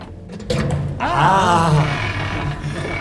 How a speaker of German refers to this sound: Die Tür. Endlich.